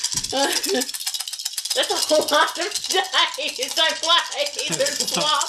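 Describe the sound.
A big handful of dice rattles and clatters continuously for several seconds, loud, while people talk over the noise.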